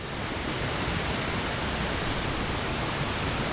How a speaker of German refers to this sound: Davon, dass es am Aralsee zu wenig Wasser geben soll, ist am Kok-Aral-Damm in Kasachstan wenig zu sehen. Durch ein rund 50 Meter breites Wehr rauschen enorme Wassermassen, rund 300 Kubikmeter pro Sekunde.